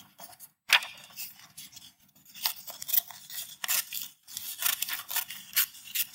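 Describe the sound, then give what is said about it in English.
Scissors snip steadily through a piece of paper, cutting out a little strip for a craft, a series of crisp cuts with short rasping strokes and brief pauses between them, no voices present. “I'm going to get a piece of paper, and we're going to cut a little strip out of it.”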